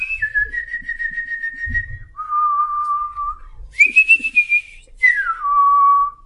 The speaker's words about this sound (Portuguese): Os melros cantaram.